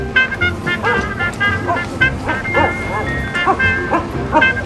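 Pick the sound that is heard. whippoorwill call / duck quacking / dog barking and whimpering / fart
dog barking and whimpering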